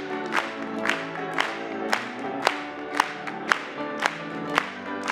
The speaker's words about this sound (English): Praise God, my sins are gone. Let's clap it to him.